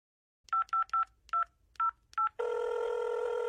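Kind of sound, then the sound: signal or alarm, telephone number being dialed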